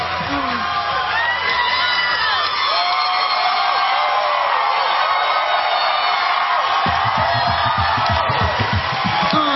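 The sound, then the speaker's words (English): A large studio audience on James Corden's late-night show cheers loudly and steadily, with whoops and yells over a dense wash of applause that carries on without pause for the whole stretch. “Alright, stop. Enough of this clapping.”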